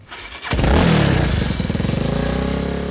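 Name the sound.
motorcycle engine revving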